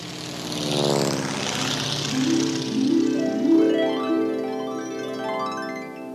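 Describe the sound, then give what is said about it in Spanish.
A small propeller plane's engine revs up, its droning pitch climbing steadily then holding at a loud, even buzz, with no voices. “¡Sube a la avioneta!”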